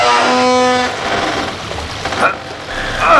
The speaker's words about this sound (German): Was ist da an der Tür? Plätschert irgendwas.